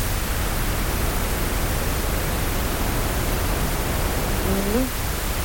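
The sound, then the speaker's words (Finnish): Steady, loud pink noise fills the whole clip, a dense even hiss weighted toward the low end, rushing like heavy rain or rapids. Near the end a brief voice-like sound rises faintly beneath it. “Ja tosiaan on valkoista ja pinkkiä kohinaa.”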